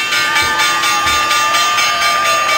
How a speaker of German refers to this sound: Das Läuten an der Wall Street zum Eröffnen oder Abschließen vom Börsentag.